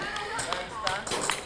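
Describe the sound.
A ring taps against the metal goalpost of a small, handball-sized goal in a hall about the size of a basketball court, several times in an irregular rhythm, each bright metal-on-metal click ringing briefly over a low murmur of voices.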